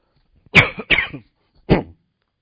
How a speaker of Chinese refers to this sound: 对不起啊，今天不知道为什么喉咙很痒，一直在哪里啊在咳嗽。